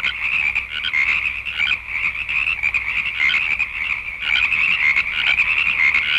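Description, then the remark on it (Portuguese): A dense chorus of many frogs croaks nonstop, loud, their rapid trilling calls overlapping into a steady, pulsing wall of sound with no voices. “Com o tempo, Faraó chamou Moisés e Arão e disse: suplicai a Jeová para que remova as rãs de mim e do meu povo, visto que quer mandar o povo embora para que ofereçam sacrifícios a Jeová.”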